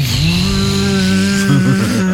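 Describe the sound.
A voice mimics a drone filming Michelangelo's David at 9 in the morning, with a steady, nasal buzzing hum full of harmonics, sustained loudly for about two seconds and wavering in pitch toward the end.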